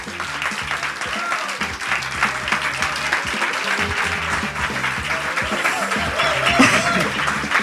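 A live audience at the Auditorium Demetrio Stratos of Radio Popolare claps steadily and loudly for several seconds, a dense, sustained wash of many hands with a few faint voices and cheers mixed in, swelling slightly toward the end.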